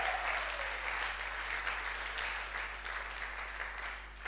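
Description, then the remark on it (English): A crowd claps steadily for several seconds, a dense, even patter of many hands with no pauses, holding fairly loud throughout before easing slightly at the end. “You should clap. You should clap.”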